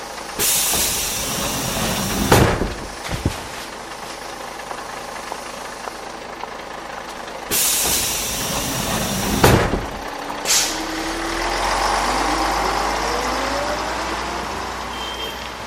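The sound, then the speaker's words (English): A bus idles with a low engine rumble while its air brakes release several loud, sharp hisses, two long bursts and a few shorter ones, as the bus stops for getting off in Darab. No one speaks. “To get off the bus.”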